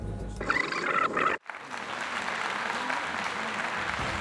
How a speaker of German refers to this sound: Einen riesengroßen Applaus für unseren nächsten Gast